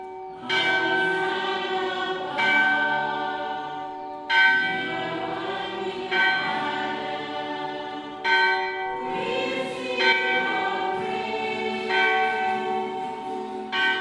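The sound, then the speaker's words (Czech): A church bell with its clapper removed, struck from the outside by a bell ringer during the singing of the Gloria at Mass, rings out in loud, resonant strokes at an unhurried, steady pace, each rich metallic tone lingering and overlapping the next, with no voices present. “Zvonu vyňali srdce už předtím, určený zvoník jim pak tluče zvenku, dokud trvá chvalospěv, a pak už zvon definitivně umlká až do sobotní slavnosti vzkříšení.”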